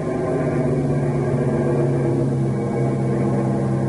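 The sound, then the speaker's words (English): A propeller plane engine drones loudly and steadily as the pitch of its prop blades is changed to crawl over the treetops, its low harmonic hum holding an even pitch throughout, with no voices present. “I'll change the pitch of the prop blades. We'll crawl right over the treetops.”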